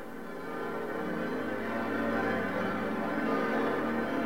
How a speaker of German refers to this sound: Alle Glocken von Moskau läuteten, sodass man sie weit über die Stadt hinaus hören konnte.